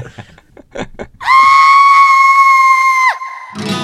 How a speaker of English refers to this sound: Ah! Scream sample. Done. Amazing.